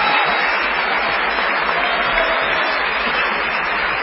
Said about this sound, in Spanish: Vamos a saludar con una ovación inolvidable a Patricio Barto.